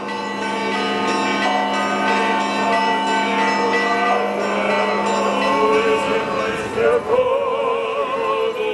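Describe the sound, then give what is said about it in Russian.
Church bells peal continuously during a procession around the church after the liturgy, several tones layered and overlapping in a rich, ringing wash that stays loud and steady throughout, with faint voices murmuring beneath toward the end as a choir and clergy sing prayers. “Звонили колокола, хор с духовенством пели молитвы.”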